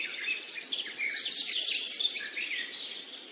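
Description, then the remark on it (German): Forest ambience filled with a steady high insect trill and overlapping bird chirps and warbles, a continuous bright chorus at moderate volume with no voices. “Höre auf die Geräusche im Wald.”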